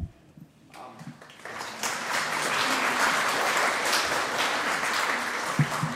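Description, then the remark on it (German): A church audience breaks into applause for what was presented and prepared at the service: scattered claps quickly swell into steady, dense clapping from many people that carries on evenly to the end, with no one speaking. “Paulus sagt zwar zu den Apachen, ihr sollt nicht nach der Predigt klatschen, aber heute hatte das, glaube ich, seinen Platz, dass für alles das, was hier auch vorgetragen und so liebevoll vorbereitet war, dass das auch beklatscht wurde.”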